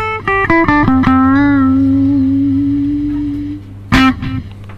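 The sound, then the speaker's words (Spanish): A distorted electric guitar, played through a guitar amp simulator with distortion and a noise suppressor that silences it when not played, plays a few quick notes, then holds one long gritty note that slowly fades before a final short burst of chords. No voices are heard. “Tenemos una ampli de guitarra. ¿Te puedo poner distorsión?”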